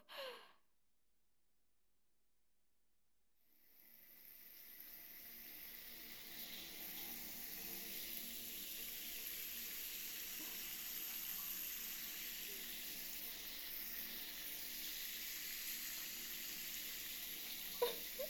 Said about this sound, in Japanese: じゃあシャワーで泡全部流しちゃうね。